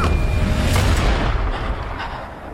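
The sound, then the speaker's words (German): A loud burst of gunfire, several rapid shots hitting a police officer, blurring into a dense, booming blast that slowly decays into a rumbling tail. “Die Schüsse treffen den Polizisten.”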